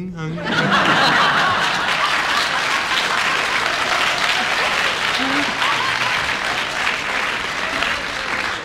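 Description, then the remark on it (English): A game show audience applauds loudly and steadily for several seconds in agreement with a player's challenge, a dense crackle of clapping hands with a few chuckles and bits of laughter mixed in. “I will decide that the audience applause means that they agree with your challenge, because I will not interpret on that one.”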